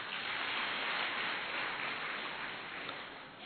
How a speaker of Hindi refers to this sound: मतलब बाप दादा की पदरामणी देखना एक अलग बात, लेकिन सन्मुख दृष्टि लिए देखो कितने थोड़े हैं, 10-12, चलो इनके भाग्य के लिए ताली बजाओ।